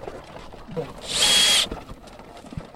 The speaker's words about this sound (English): We'll drill it and we'll put a tag in. So this is a young male. Yeah. Now, he will not complain when I drill, but you might see some blood.